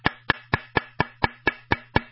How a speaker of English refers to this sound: Well, that's a rod knocking in the bottom basement of your engine. Yes, your engine does have a basement, and that rod's knocking.